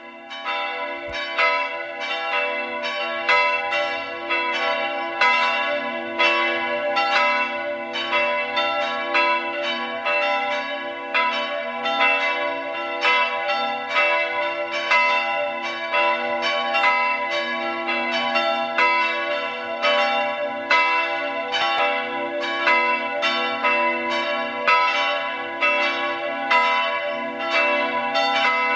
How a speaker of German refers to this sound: Es ist 12 Uhr. Sie hören die Glocken der katholischen Pfarrkirche von Stadt Schleining im Burgenland.